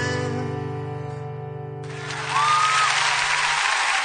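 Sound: crowd applauding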